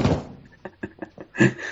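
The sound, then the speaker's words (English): Chairs being shuffled and rearranged by a man at Marlowe after hours: a heavy scraping clatter, then a quick run of wooden knocks and bumps, ending in another loud thud. No voices. “He's just rearranging the chairs right now.”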